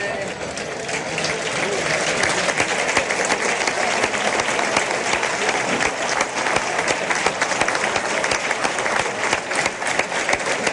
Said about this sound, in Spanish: Bueno, los aplausos iniciales que están escuchando es para el toro, claro, la vuelta al ruedo. Ahora va pasando debajo nuestra y el público, pues bueno, prácticamente unanimidad en los aplausos.